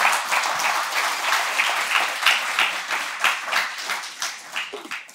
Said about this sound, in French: Je peux entendre amen et on peut applaudir le Seigneur pour cette nouvelle saison qu'il veut faire.